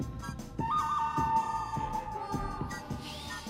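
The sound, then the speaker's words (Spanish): A whistler whistles a melody, a clear, sustained whistle over a steady thumping beat, holding long notes with slight pitch bends, fairly loud, with no talking. “Ahí da su silbidito.”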